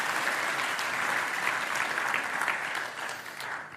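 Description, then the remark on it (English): An audience applauds steadily, a dense wash of many hands clapping at an even level, easing off a little toward the end. No one speaks over it. “Let's give Tom a round of applause.”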